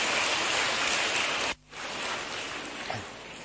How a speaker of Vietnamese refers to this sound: Chúng ta một tràng pháo tay để gặp gỡ người chị em này.